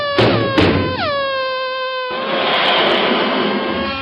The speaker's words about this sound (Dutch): In de prille ochtendstond rolde een lange trein vrachtauto's nader. Het landschap in stof en damp hullend.